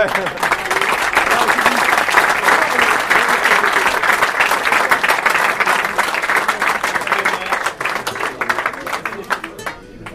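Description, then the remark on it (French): Dense, sustained applause as a group applauds itself, many hands clapping in a steady loud wash that holds for about ten seconds before thinning slightly toward the end. “On peut s'applaudir uniquement.”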